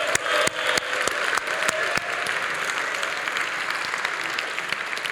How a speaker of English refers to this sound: And so if we could, a huge round of applause for the entirety of the teaching staff.